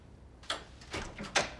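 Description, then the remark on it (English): The front door of an apartment being shut as a man leaves: a handle click, a soft rattle, then a sharper final latch knock, three quick bursts over about a second with no voices. “He crosses the apartment to the front door and leaves.”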